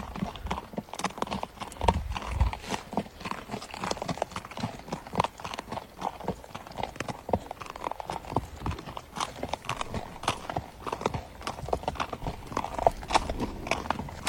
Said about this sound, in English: So he's riding his horse in his ranch, and he hears something.